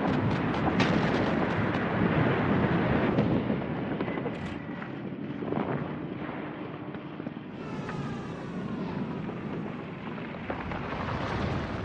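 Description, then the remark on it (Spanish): A continuous loud roar of bombing explosions during the Blitz air raids on London, with heavy booming blasts breaking through a dense rumbling barrage. No voices are heard. “Pero a pesar de la lluvia de fuego que golpea la ciudad, las escenas apocalípticas que contemplan sus habitantes y las decenas de miles de muertos, Londres sobrevive.”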